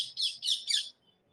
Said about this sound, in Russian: Попугай, да? Вы знаете, что во Вриндаване нет интернета. Во Вриндаване, знаете, кто есть? Попугай.